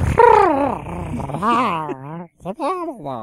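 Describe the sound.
A person's voice imitates a common minke whale call, with wavering, groaning tones that slide up and down in pitch, a short break, then a final rising moan.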